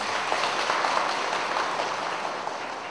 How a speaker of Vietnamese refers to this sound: Nên vào buổi sáng nay, trước khi chia sẻ giáo lý, xin quý vị Phật tử chúng ta tán thán cho một tràng pháo tay.